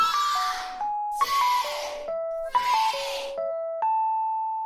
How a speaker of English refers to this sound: So you can listen to this cell phone ring again and again and never quite be satisfied that you truly know it, that you truly understand it.